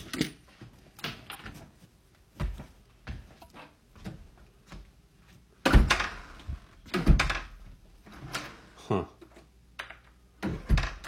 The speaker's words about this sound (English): Interesting that the front door doesn't latch.